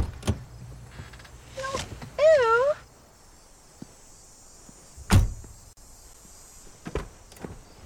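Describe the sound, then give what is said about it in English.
A cat that has just been hit by a car on a highway lets out one short, wavering meow, clear, surrounded by scattered clicks and a sharp thud in an otherwise quiet space. “It's a cat, Moira.”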